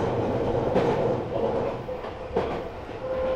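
A semi-express commuter train bound for Ikebukuro, Japan, with Akitsu as the next station, rolls along the rails with a steady, loud rumble, punctuated by two sharp wheel clacks and a thin whine rising near the end; no one speaks.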